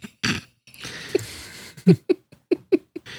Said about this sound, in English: This one is called Cat Sounds.